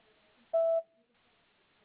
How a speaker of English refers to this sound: Leave a message when you hear the beep.